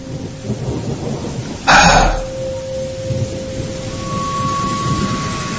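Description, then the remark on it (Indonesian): Steady rain begins to fall under cloudy skies while people walk on foot, hissing throughout, broken about two seconds in by a single loud, sharp clap of thunder that quickly fades back into the downpour. A faint sustained tone hums underneath. “Dan ketika sedang berjalan, hujan pun mulai turun.”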